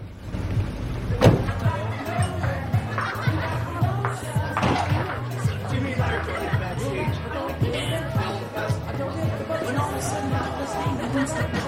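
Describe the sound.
A valet opens a car door and it thuds shut outside a large house in Beverly Hills, two sharp knocks standing out over a steady wash of crowd chatter and indistinct voices from a party in full swing.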